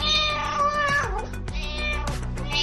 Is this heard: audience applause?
no